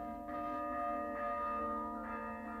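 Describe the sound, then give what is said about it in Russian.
A church alarm bell tolls in steady, insistent strikes about a second apart, each ringing note overlapping the lingering hum of the last, loud and resonant with no voices. “Потом услышала колокольный набат. То ли война, то ли пожар.”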